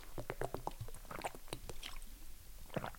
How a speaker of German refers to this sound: Ach Mensch, ich muss kurz einen Schluck Wasser trinken.